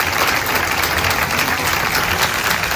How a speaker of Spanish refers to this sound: Parece que sí, que son aplausos de aprobación.